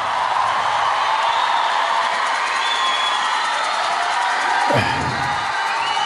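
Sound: crowd applause and cheering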